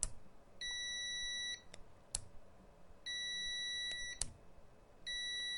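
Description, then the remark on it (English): A multimeter continuity tester, set to its buzzer mode, beeps three times as its probes are clicked together. Each steady, shrill electronic tone lasts about a second and follows a sharp click after a short delay. Clear, with no talking. “I mean, it's a noticeable second or second and a half before it decides it wants to beep.”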